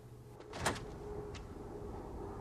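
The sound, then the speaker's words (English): A car door is unlocked and pulled open: one sharp mechanical clunk followed by a lighter click a moment later, set against a steady low background hum. “Tony, who's gone back to his car and unlocked the door”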